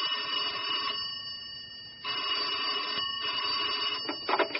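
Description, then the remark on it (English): A telephone rings in an office in New York, in repeated shrill bursts with brief pauses between them, loud, with no one speaking. “Sitting behind his monstrous oak desk in a monolithic office block in New York, he waited for the phone to ring.”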